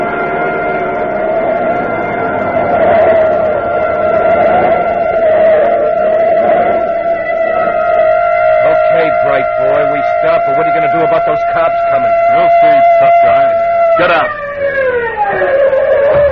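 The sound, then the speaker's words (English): A police siren from a patrol car a block behind sounds loudly in a long, mostly steady wail with slight wavering, over rattling engine noise, then its pitch sags and winds down near the end. “Hey, a police siren a block behind.”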